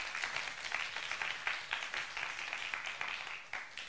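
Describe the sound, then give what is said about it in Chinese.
An audience claps together in a steady, sustained round of applause during a church sermon, giving glory to God, many hands overlapping into a dense wash of sound that lasts several seconds without any voices. “阿们的，拍手把荣耀给神。”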